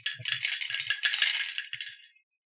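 Dice are shaken in a container for a randomization roll, clattering and rattling for about two seconds, a busy, bright jangling shake with scattered low knocks, then stopping abruptly into silence.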